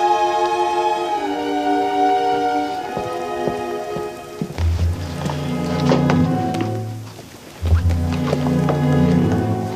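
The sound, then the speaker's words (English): Steady rain patters throughout, a dense hiss of falling drops mixed with sustained tonal sounds, while heavier low rumbling bursts swell in during the second half. “The second is in the parlor at the hotel, where Marion takes up a nice offer from Norman Bates to have a sandwich that he made, rather than have to go out again in the rain for dinner.”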